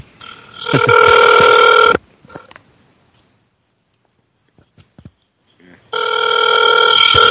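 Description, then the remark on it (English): A phone ringing on an outgoing call made from a cell phone: two loud, bright electronic ring bursts about two seconds long, separated by a near-silent pause of roughly four seconds with a few faint clicks. “Calling him on myself, so.”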